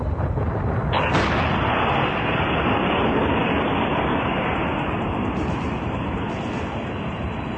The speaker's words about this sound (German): Beim Ausbruch des Vulkans Mount St. Helens in den USA war die Explosion so gewaltig, dass der Gipfel weggesprengt wurde. Der Berg verlor so 400 Meter an Höhe.